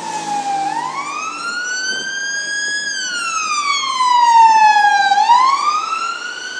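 An emergency vehicle siren wails past on a street in the evening, in the rain, its loud, harmonic-rich tone sliding slowly up and down in pitch and swelling briefly louder before easing off, over a low traffic rumble with no talking.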